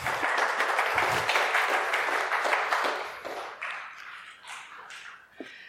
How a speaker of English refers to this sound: Little clap.